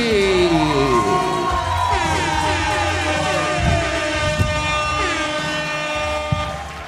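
A loud, sustained burst of audience applause and cheering at a live show in Río Piedras fills the whole moment, with blaring horn-like tones and whoops rising and falling over the dense crowd noise.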